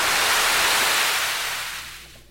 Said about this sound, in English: What was that, the toilet flushing?